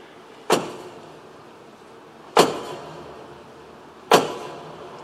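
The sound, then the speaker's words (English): Three heavy, booming strikes on the large doors of a cathedral in Paris as the Archbishop of Paris opens them for the first time at its reopening and rededication ceremony, spaced about two seconds apart, each ringing out with a long reverberant decay. No voices. “And I would like to have you watch as the Archbishop of Paris opens the doors for the first time.”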